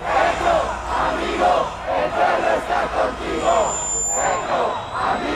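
A large crowd in Bogota's Bolivar Plaza, Colombia, chants loudly in a steady, rhythmic cadence while waiting for leftist President Petro, many voices shouting together in unison, dense and continuous, with a faint high whistle-like tone near the end.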